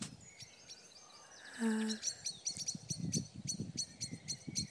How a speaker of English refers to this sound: But apart from the blackbirds and pheasants and other birds, all is quiet.